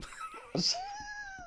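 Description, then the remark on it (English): A voice imitates an 80s-style transition sound effect: a breathy burst followed by a sustained, sliding tonal whoosh that glides upward and holds, fairly loud. “I was like trying to do like one of those 80s transition effects.”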